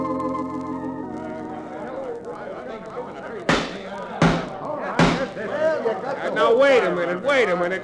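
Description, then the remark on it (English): A crowd of townspeople yells and clamors with many overlapping voices, growing louder toward the end, with three sharp bangs cutting through the middle of the din. “Why don't you folks listen instead of yelling?”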